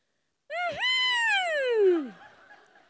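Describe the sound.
A single loud vocal shriek, like a startled owl: it jumps up sharply, then slides down in one long quavering wail before cutting off, alone with no talk.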